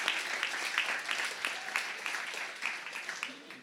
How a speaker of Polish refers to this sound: Wielkie brawa, słuchajcie,